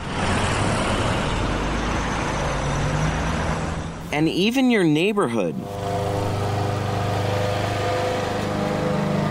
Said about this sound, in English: The bustle of the city. The roar of construction on the highway.